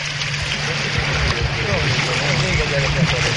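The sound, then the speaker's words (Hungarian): A boat accelerates fast through water with a steady, loud rush of spray and wind and a low engine drone throughout, while people talk faintly beneath the noise. “Most nagyon megy. Jó, jó gyorsul a hajó.”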